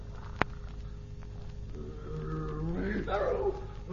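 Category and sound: animal, tigress roaring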